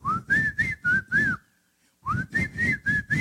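A man whistles a bright, lilting tune as he walks down the street, in two short phrases of several notes each, separated by a brief pause.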